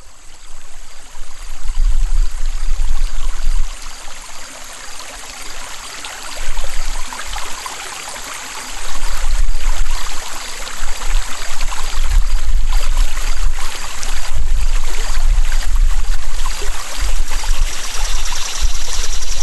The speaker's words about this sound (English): enjoy the ambient sounds of a burbling creek in Dougspur, Virginia.